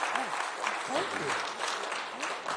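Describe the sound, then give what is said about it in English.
An audience applauds in a steady, dense wash of clapping that holds at an even loudness throughout, with faint voices calling out beneath it. “Now let's applaud.”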